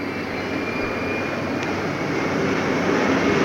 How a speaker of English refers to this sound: Japan Airlines plane is just coming in for a landing.